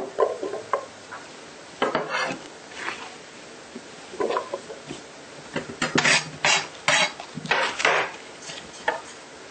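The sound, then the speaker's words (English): Wooden knocks and scraping as a small cutting board is handled on a kitchen counter, irregular clatters growing busier toward the end, with no talking. “Need to get another cutting board. That one's kind of too small.”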